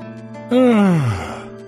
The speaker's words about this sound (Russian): Вдруг зевнул ангел. Господи, как будто какая-то высшая сила вдруг широко раскрыла мой рот и загнала мне в горло могучий глоток воздуха. Вы зевнули, сказал пастор.